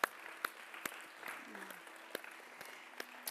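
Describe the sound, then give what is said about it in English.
An audience applauds during worship, giving Jesus a clap offering: a steady wash of clapping with sharp individual claps popping out irregularly, while faint voices murmur underneath. “Let's give Jesus a clap offering on worship.”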